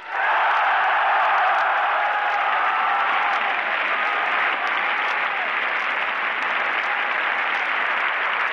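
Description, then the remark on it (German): A huge, fanatical crowd at a German wartime rally roars and applauds without pause, cheering a speaker's call for total war, a dense, loud wall of clapping and cheering that holds steady for several seconds with no individual voice standing out. “In diesem Hexenkessel bringt er die fanatisierten Massen so weit, dass sie jubelnd nach dem Abgrund schreien.”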